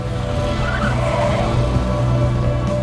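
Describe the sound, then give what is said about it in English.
A car engine revs loudly and steadily as the car drives off from a parking lot, with a brief tire screech rising over the low rumble and no voices. “Several students stand around filming Ben and Mandy as he drives off.”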